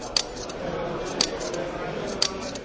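Three crisp shutter clicks with a flash lamp firing, from a 16-megapixel camera with macro lenses photographing a model for 3D reconstruction, evenly spaced about a second apart, each a short sharp snap over a steady background hiss.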